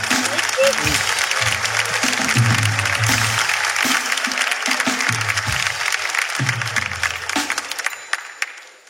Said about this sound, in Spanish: Un aplauso para mi amigo.